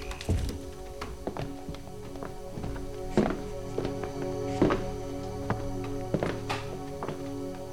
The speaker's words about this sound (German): Wir gehen rein. Aber leise. Man darf uns nicht hören. Gut. Los, Tür zu.